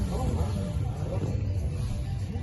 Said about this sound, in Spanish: Pero sonidos, ¿qué sonidos? Pues hay uno fundamental, el rugir de los motores.